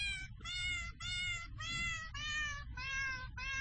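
A cat piano app plays a steady run of seven short, synthetic-sounding cat meows back to back at different pitches along a scale as the screen is touched, like notes on a keyboard. It is fairly loud with a low rumble underneath and no talking.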